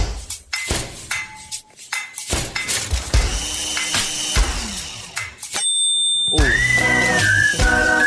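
People play pots, pans and other kitchen utensils as instruments over Zoom with a choir, struck in a lively rhythmic pattern of clinks and clangs, then bright ringing tones sound and a melodic whistled tune rises over them near the end.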